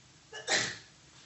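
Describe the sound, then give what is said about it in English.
A single sneeze with a short sharp intake of breath followed by a bright, explosive burst that fades quickly; no talking. “God bless you.”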